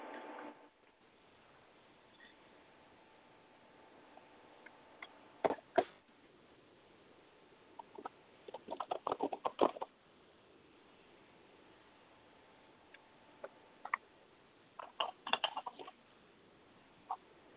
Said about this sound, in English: 1 second. I have to shuffle my cards real quick.